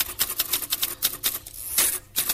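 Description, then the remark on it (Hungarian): Rapid typewriter keys clack in an uneven burst of sharp, bright strikes, fairly loud, with a brief pause midway before the tapping resumes. “De addig írógépen lekopogom, hogy gondolatom felé száll”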